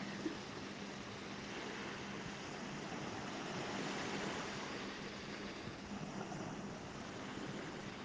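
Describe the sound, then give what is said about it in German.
A steady, broad wash of sea waves and surf rolling in continuously at moderate loudness, with no distinct breaks or pauses over the whole stretch and no voices. “Gib dir Zeit und Raum, dich wirklich in die Energie des Meeres einsinken zu lassen.”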